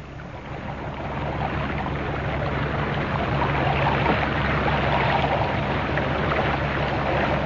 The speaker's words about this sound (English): The island is straight ahead. I'm taking you in now. There's a boat there already. I'll put in alongside it.